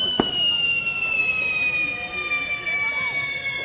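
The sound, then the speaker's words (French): A single sharp stun grenade blast, thrown by police during the eviction of a ZAD protest camp, cracks out at the very start, while steady, high police sirens wail throughout over a noisy, busy background. “Les grenades assourdissantes ont été lancées par les forces de l'ordre.”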